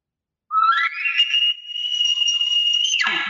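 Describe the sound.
An imitated elk location bugle, made by a person in a small room: a single call that slides up into a long, sustained high whistling note, then breaks off with a quick downward drop and a brief low grunt at the end.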